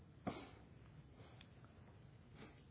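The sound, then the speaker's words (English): A short nasal sniff near the start, then a fainter second sniff near the end from a person with a slight sniffle in the evening, quiet against a soft, steady background with no talking. “I have just a little bit of a sniffle this evening, so if you hear me sniffling, I apologize.”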